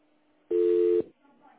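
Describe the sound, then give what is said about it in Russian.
A single loud, steady telephone voicemail beep lasting about half a second, clean, with faint low murmuring before and after it. “Оставьте свое обращение после гудка.”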